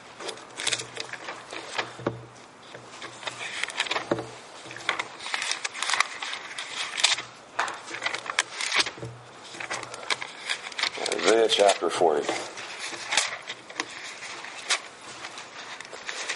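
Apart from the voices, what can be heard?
bible pages turning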